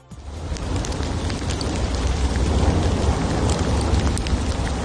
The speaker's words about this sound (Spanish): Después de que ayer cesara su actividad un par de horas por la mañana, el volcán ha entrado en una nueva fase en la que vuelve a generar fuertes explosiones.